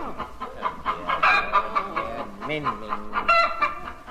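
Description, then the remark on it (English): A hen being handed over to be held clucks repeatedly in short, choppy bursts, fairly loud, with a few higher squawks mixed in and a faint rustle underneath. “hold this chicken. Be careful, she's...”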